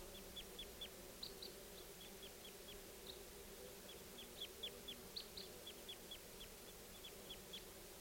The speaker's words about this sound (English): Here's the calls of the flock again. I think they're going to take off. They're calling louder.